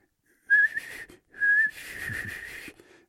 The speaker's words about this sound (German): kann pfeifen